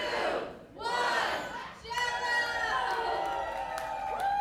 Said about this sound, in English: And sometimes it's impossible to tell who won without having the audience cheer 2 or 3 times.